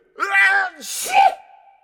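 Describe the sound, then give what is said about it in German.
A single sneeze: a rising, voiced "ah" intake builds up, then bursts into a loud hissing blast with a short vocal tail that trails off quickly. “Gesundheit.”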